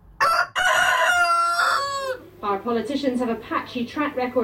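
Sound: rooster crowing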